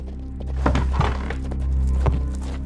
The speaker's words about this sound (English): Oh, horse just stopped outside.